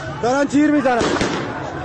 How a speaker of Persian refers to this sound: دارن تیر میزنن 23 اردیبهشت 1401 بروجرد، شهرستان بروجرد، دارن تیر میزنن.